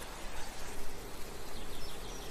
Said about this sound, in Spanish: Sonido del susurro de las hojas de un árbol sobre los 20 decibelios. Es apenas perceptible.